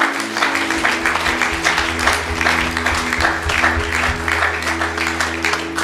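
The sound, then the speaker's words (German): An audience at a church service applauds for Jesus, a dense, continuous patter of many hands clapping that holds for several seconds, with a low sustained organ or keyboard tone humming underneath. “Komm, lass uns Jesus mal einen Applaus geben.”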